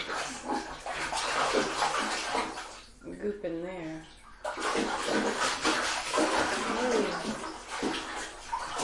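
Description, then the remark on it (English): Water splashes and sloshes steadily in a bathtub as water is splashed over someone being washed, fairly loud, with a brief lull midway where a voice speaks, then the splashing resumes. “Just splash water on him. Well, also just kind of gently with the water soak over him.”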